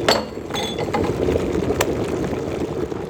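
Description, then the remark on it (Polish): Two drinking glasses clink together as they are set out for a test of pouring hot and cold water, a few bright chinks near the start and another around the middle, over a low steady background rumble. “No dobra, to bierzemy dwie szklanki.”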